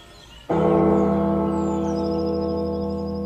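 church bell ringing

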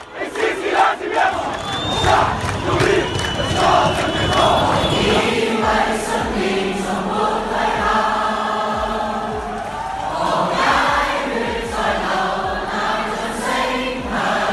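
street protest crowd chanting

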